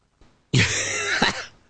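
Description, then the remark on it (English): A man lets out a single harsh, raspy cough, preceded by a faint breath, then a brief second catch at the end. “Uh-oh. I never hear you cough”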